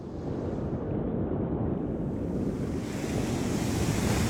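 Heavy ocean surf roars continuously, waves crashing and churning beneath a steady rush of wind buffeting the microphone, loud with no voices.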